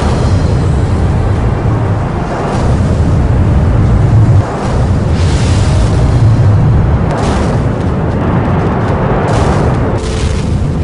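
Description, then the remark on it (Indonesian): A sustained, heavy roar of a spacecraft rocket launching on a flight to the moon fills the whole stretch, dense low rumble with crackling bursts and surges, staying loud and steady without any voices. “5, 4, 3, 2, 1. Roket diluncurkan.”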